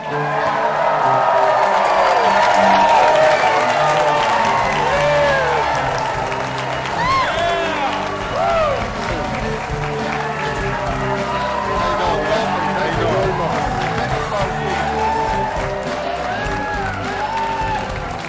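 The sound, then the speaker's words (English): A studio audience on the show Packers Live applauds and cheers loudly for about eighteen seconds as NFL safety Ha-Ha Clinton Dix is welcomed as guest, a dense wash of clapping with whoops and shouts rising above it, the level steady throughout. “You've attracted a rather sizable crowd.”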